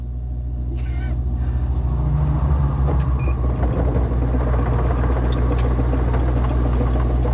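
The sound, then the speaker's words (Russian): A car engine starts up and settles into a loud, steady low rumble that fills the whole clip, with no voices over it. “Так, так, заводится машина.”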